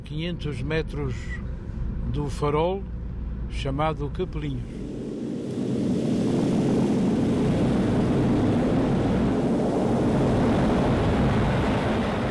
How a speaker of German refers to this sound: So oder so ähnlich muss es sich angehört haben, als der Vulkan ausbrach. Eine 3D-Animation im Informationszentrum auf Faial, das sich unter dem noch immer teilweise verschütteten Leuchtturm befindet, zeigt die Eruptionen.